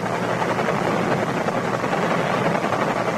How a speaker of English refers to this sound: The helicopter circling the other way.